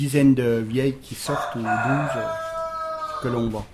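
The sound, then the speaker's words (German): A rooster crows in one long, drawn-out call, framed by shorter, lower calls just before and after it, on a farm that keeps three roosters. “Und dann gibt es noch 3 Hähne.”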